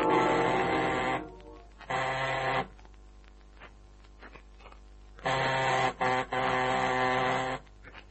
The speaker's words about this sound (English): After a couple of minutes of pressing the gold-plated buzzer, I took out my skeleton keys.